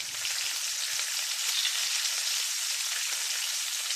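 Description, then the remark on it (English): Steady, crackling sizzle of chow mein noodles frying in a hot pan, a dense hiss of popping oil that holds at an even, fairly loud level throughout, with no voices. “Or maybe the sound of sizzling chow mein.”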